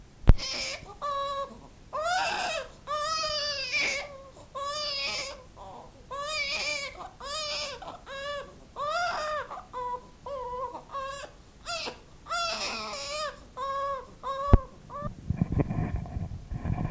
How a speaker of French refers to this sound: Pendant ce temps-là, les oursons se sont faits tout petits dans un coin et il pleure très fort.